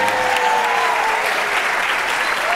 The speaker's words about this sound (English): Bill Curtis deserves a point for that. Oh, you won a point for Adam, and I think a round of applause for Bill.